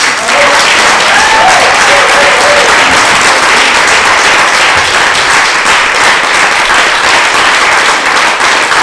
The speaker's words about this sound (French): Fait que moi, je t'applaudis. Ouais.